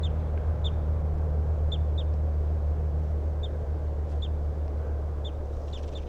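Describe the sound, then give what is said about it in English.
A male bird near a road sings a string of short, high, sharp notes repeated at uneven intervals, over a constant low rumble of traffic. No one speaks. “So recording, here's the good song of that male who's near the road.”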